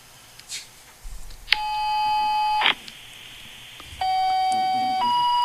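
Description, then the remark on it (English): Fire department dispatch tones for Fort Recovery first responders over a scanner: a long, steady buzzy tone, a brief burst of hiss, then two more sustained tones in sequence, the second slightly higher. No one speaks. “The double hiss is Fort Recovery.”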